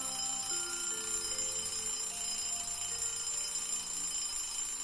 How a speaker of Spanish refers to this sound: Y esto nos pasa todos los días cuando suena el despertador. Y normalmente antes de lo que nos gustaría a todos, porque nos despertamos ya de por sí cansados.